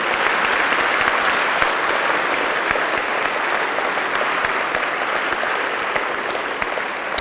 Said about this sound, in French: Alléluia. Applaudissez notre Dieu.